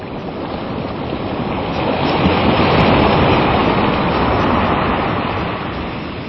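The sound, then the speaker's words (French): Steady wash of sea waves on a beach in Tahiti, a broad continuous roar that swells gently in the middle and eases off again, with no voices. “La mer, avec ses vagues, dépose un objet sur une plage de Tahiti.”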